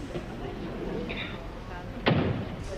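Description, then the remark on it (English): A door is shut once with a firm, solid thud that briefly rises above a steady murmur of background noise and faint voices. “Wait till I shut the door.”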